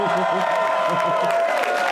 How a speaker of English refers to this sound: Guys, a little moonwalk cheer to get this thing going.